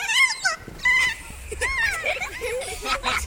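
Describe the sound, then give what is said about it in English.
A kea's play call: loud, warbling, harmonic chirps rise and fall in rapid bursts, several overlapping squeals in quick succession with a bright, bubbly, almost laughing quality. “Wild kias that had been playing began playing harder and even engaged birds that had not been playing at all.”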